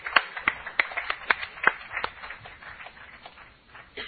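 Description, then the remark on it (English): A gathering breaks into scattered applause, sharp claps landing quickly at first, then thinning into softer, sparser clapping that fades out over a few seconds, with no clear voices rising above it. “Give him a cheer.”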